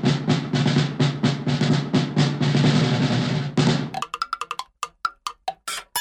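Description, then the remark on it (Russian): A percussion instrument is struck on its body in a fast, steady rhythm over a low hum, then gives way to a series of sharp, ringing, cowbell-like hits spaced unevenly apart. “Ну и, наконец, есть еще ударные. В них звук извлекается ударом по корпусу инструмента.”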